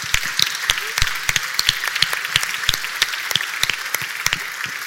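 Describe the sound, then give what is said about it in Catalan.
A crowd applauds steadily for the author of the newly unveiled Corpus 2023 poster. Many hands clap in a dense, continuous, lively patter, with sharper individual claps standing out and no voices over it. “Doncs ja tenim el cartell de Corpus 2023 i volem donar un fort aplaudiment al seu autor,”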